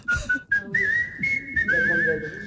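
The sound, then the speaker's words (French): A lone person whistles a bright, bouncy melody, a French film theme tune, with quick warbling trills between held notes. “Non, vous allez voir, c'est musique sifflée française.”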